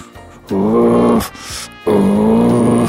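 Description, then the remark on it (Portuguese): A person imitates a howler monkey with two loud, drawn-out guttural roars, separated by a brief breathy pause. “É, o bugio é aquele bicho que faz...”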